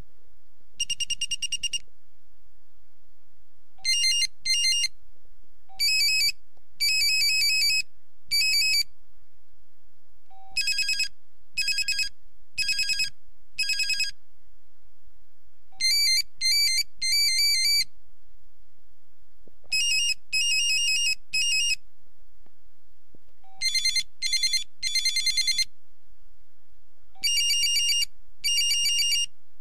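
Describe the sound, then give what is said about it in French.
A series of old Motorola mobile phone ringtones, bright electronic beeping melodies playing one after another with short silent gaps between them, loud, with no voices. “J'ai retrouvé quelques vieilles sonneries des modèles de cette époque.”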